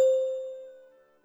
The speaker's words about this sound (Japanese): チャイムの後に、続けてうくむにで回答しましょう。